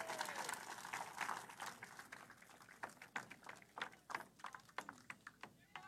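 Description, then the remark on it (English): A crowd at a speech by Governor Walz applauds, a dense patter of claps at first that thins out into scattered, sharper individual claps toward the end. “There's applause from the crowd.”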